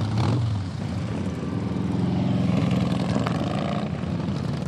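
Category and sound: vehicle, motorcycles arriving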